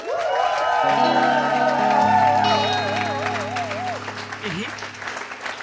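A live audience applauds and cheers loudly for several seconds, with dense clapping, sharp whistles and sustained, warbling horn-like tones rising above the crowd noise before fading slightly.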